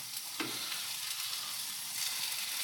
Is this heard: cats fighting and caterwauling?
no